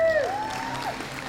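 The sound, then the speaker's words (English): A church audience applauds a young member about to give the announcements, in a steady, dense wash of clapping, with a brief high whistle-like tone sliding through at the start. “So y'all give her a round of applause.”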